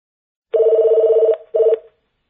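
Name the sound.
phone ringing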